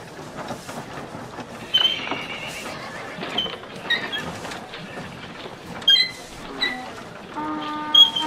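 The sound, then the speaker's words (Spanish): Horses neigh several times in short, rising whinnies over a busy outdoor street bustle, with hooves clopping on hard ground beneath, in the centre of a street shared with donkeys, camels and carts. The calls come at irregular moments, some fairly loud. “por cuya fresca sombra la gente camina, dejando el centro de la calle para los asnos, camellos, carros y caballos.”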